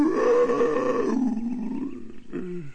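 A lion roars in one long, loud, rumbling call that sags lower in pitch as it fades, followed by a short, gruff second burst at the end. No one speaks.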